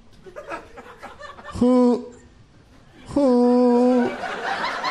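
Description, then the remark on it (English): A man makes two loud, drawn-out hooting calls, imitating an owl while asking Siri a question, the second longer than the first, with faint background chatter and laughter around them. “She's going to think an owl's asking her.”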